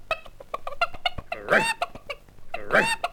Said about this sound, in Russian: И что это ты, курочка, так раскудахталась?